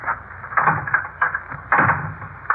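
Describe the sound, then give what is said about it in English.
A door is pushed shut and locked, heard as a string of wooden thumps and rattling clunks spread over a couple of seconds, with no one speaking. “I'd better lock the door in any event.”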